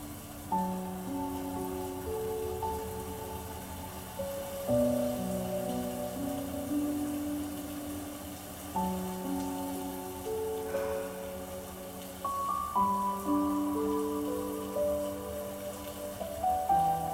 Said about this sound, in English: Just take a moment and appreciate the music. The gentle sounds of the rain.